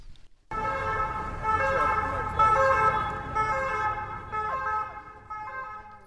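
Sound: ambulance siren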